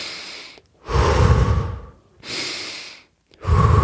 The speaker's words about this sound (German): man guckt, dass man ganz viel Sauerstoff in den Körper bekommt, in die Blutbahn, also kurz vor Hyperventilieren eigentlich schon fast. Man atmet mehr, als man normalerweise atmet, einfach so.